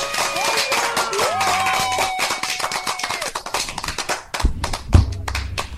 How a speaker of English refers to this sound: Let me give him the clap, man. Oh, where my clap at? There it is.